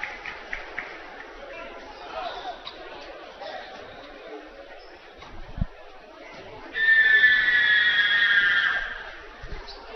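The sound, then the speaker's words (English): Over a low, steady basketball crowd murmur, a loud, shrill crowd scream erupts during a player's second free throw, which he misses, and holds for about two seconds before dropping back to background chatter. “And that scream worked. Quite loud, but it worked as he misses the second.”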